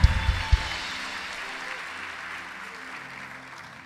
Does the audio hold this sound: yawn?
no